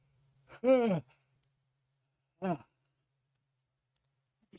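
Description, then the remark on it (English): A loud yawn with a voiced, falling groan, then after a pause a shorter, quieter yawning breath out. No one speaks. “Why do I start yawning when?”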